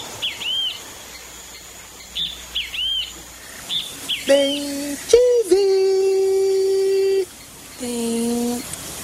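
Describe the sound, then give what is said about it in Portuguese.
A great kiskadee (bem-te-vi) calls several times in quick, sharp, clear high-pitched bursts, followed by longer, lower drawn-out voiced tones that sound like someone imitating the call. “Bem-te-vi.”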